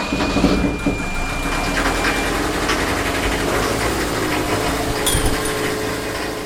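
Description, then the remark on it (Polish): The engine of a sailboat of 12 tons of steel idles steadily as the boat motors out of port, a continuous low rumble with a throbbing mechanical chug and some higher clatter, holding an even level throughout with no speech. “A ty silnik odpalasz? Na silniku będziecie płynęli?”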